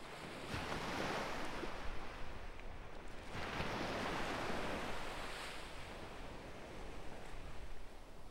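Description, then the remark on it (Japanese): Waves wash onto a beach in broad, rolling surges, each swell rising and fading over a few seconds against a steady hiss of surf, with no voices. “こうしてると本当に海にいるみたい。私、シーズンオフの海岸とか好きなんだ。”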